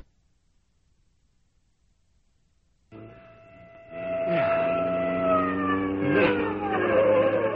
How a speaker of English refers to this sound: That siren. That must be the police. The police!